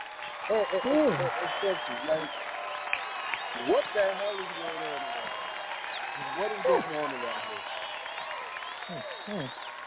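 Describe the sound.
Steady audience applause fills the background, a dense patter of clapping running under voices that talk and call out over it for the whole stretch.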